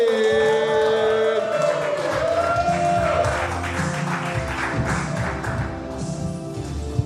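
An audience claps steadily and densely for several seconds, while a brief tonal, musical sound rings out at the start and fades as the applause carries on.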